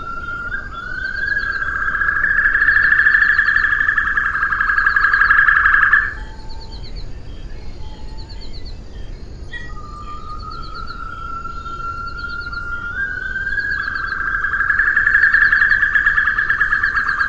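The call of the extinct Assumption white-throated rail, a voice described in the literature as highly variable: two long, piercing whistled tones, each rising and holding for several seconds, with brief softer chirps in between, set against a steady outdoor background hiss from original recordings made on Assumption.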